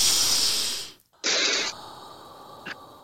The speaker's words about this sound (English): So take a deep breath for 1 second. Okay. Take a real deep breath, right? Uh-huh. Yeah, one more time. Let me hear you breathing in.